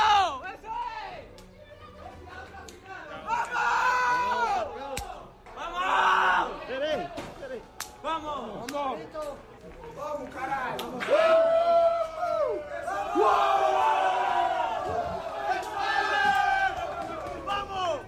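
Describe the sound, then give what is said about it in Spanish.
Real Madrid football players shout and cheer in the locker room after a match, coming in one by one yelling "vamos". Overlapping yells and whoops rise in bursts, loud, with chaotic group chatter throughout. “Iban entrando uno a uno los jugadores del Real Madrid gritando aquello de vamos.”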